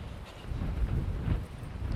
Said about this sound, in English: I'd say that actually the wind today is a lot stronger than yesterday. Really gusting, so hopefully you can still hear me. If there's the old crackle, I apologise.